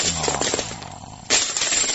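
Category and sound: household object, coins dropping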